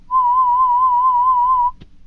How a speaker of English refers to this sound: Okay, can you hear me? Perfect. So let's just do the beeping sounds. Raise your hand every time you hear it, okay?